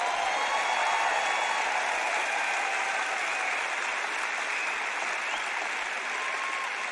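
A crowd claps steadily and loudly for about seven seconds, a dense, even wash of many hands with no voices breaking through.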